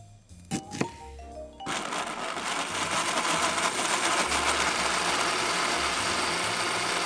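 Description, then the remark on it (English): A few brief clicks and clatters, then a blender motor whirs up and runs steadily at a loud, dense roar, pureeing sliced white peaches, with no voices. “Slice up the peaches and puree them in a blender.”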